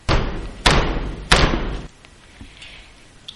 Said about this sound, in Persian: پیرزن که می دونست یه مهمون دیگه زیر بارون مونده، رفت پشت در و دوباره پرسید: وای، این بار کیه داره در میزنه؟